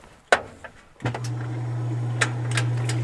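A washing machine used to make cider, bruising apples in its spin cycle, starts up: a couple of sharp clicks, then a motor kicks in with a steady low hum, and occasional clunks and rattles sound over the drone.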